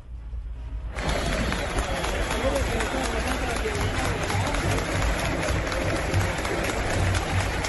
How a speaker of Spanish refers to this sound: Fue en un partido contra Medellín, y es una total novedad, porque no es fácil que un estadio como el Atanasio aplauda a un jugador de América con la rivalidad que hay entre los clubes.